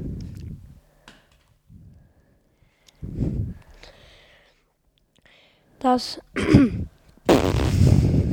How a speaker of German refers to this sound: Das war ein Big Mac-Furz.